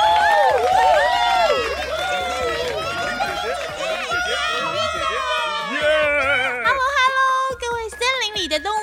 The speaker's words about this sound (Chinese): 嘿嘿，掌声加尖叫。